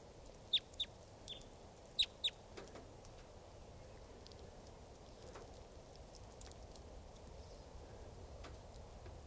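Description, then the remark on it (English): A flock of about 10 wild 'type 2' birds gives sharp, high call notes, loud paired chips early on, then fainter scattered calls over a steady background hiss, with no talking. “and a flock of about 10 type 2s just came in.”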